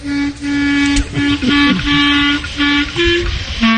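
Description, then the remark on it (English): A miked clarinet, played by a self-taught player, plays the opening of Jingle Bells: several held, buzzy notes mostly on one pitch, a short wavering slide in the middle, then a step up to a higher note. “I'm going to mic your clarinet as you stick that long thing in your mouth. And play.”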